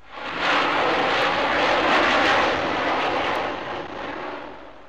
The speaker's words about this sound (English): An airplane 10 feet away has about 120 decibels of sound.